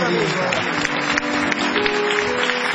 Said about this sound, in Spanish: Bueno, maestro, como a Rolón ya lo aplaudimos, voy a pasar a decirle algunos de los pedidos que hay.